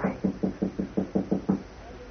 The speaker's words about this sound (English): I'll try the door. Okay. It's bolted. Oh? All right, try knocking, but softly.